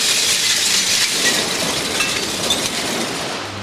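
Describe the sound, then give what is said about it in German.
A truck dumps a load of scrap metal in the scrap hall of a scrapyard: a steady, dense clatter and rattle of metal pieces tumbling, loud and unbroken throughout, with no voices. “Ein Lastwagen fährt gerade in die Halle und leert seine Ladung aus.”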